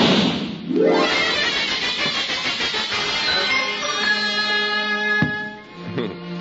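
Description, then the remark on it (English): A single loud cannon cracker firecracker blast goes off on the 4th of July, its booming burst trailing into a long, noisy rumble that slowly fades over several seconds. “Gee, Ma, just let me set off this cannon cracker.”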